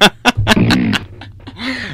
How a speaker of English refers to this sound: The fart wasn't so good. Let's do it again. Come on. Who farts like that?